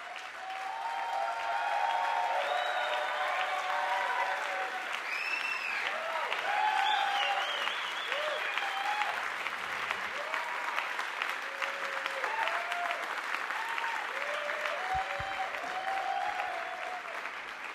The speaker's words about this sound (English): An appreciative crowd at the 930 Club, calling out requests and getting what they wanted.